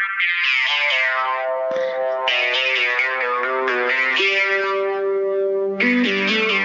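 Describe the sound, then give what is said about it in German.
Old psychedelic-sounding instrumental intro music with heavily effected, distorted tones playing sustained notes that shift pitch in steps, steady and loud throughout, with no voices. “Das ist das alte, sagen, das hörte sich das etwas alte, psychedelisch entschuldige, an.”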